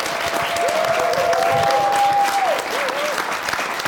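A crowd applauds steadily for a few seconds, dense clapping with a faint whistle or tone rising above it and murmuring voices mixed in.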